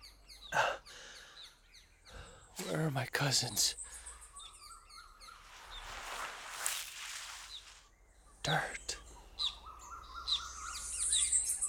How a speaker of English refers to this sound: Birds.